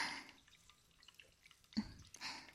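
Soda fizzes in a glass, a soft hiss of tiny pops and crackles with a few sharper bubbly bursts, quiet throughout with no one speaking.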